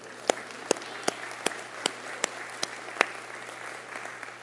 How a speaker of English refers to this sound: Let's give a round of applause for these kids who were baptized today.